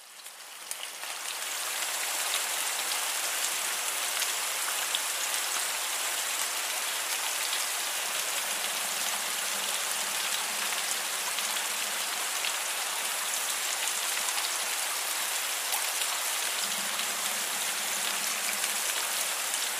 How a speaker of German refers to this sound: Um das Ganze jetzt noch realistischer zu machen, habe ich das Frequenzspektrum ein bisschen bearbeitet und dem Ganzen noch ein bisschen Hall gegeben. Und fertig ist dann die Regenkulisse.